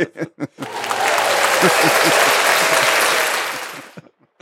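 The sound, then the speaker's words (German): Rain patters steadily on a roof skylight in a dense, hissing rush lasting a few seconds, with people talking just before, faintly underneath, and again as it fades. “Vielleicht hört man das gerade, wie der Regen auf das Dachfenster passt.”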